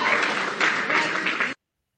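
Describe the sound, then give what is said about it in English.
A room audience applauding President-elect Donald Trump after he told a reporter he was fake news: a dense, steady wash of many hands clapping for about a second and a half, fairly loud, ending in an abrupt cutoff followed by silence. “People in the room applauded him.”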